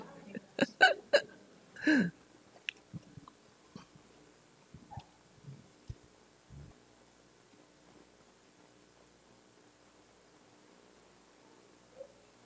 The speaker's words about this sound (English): I hear little hiccups.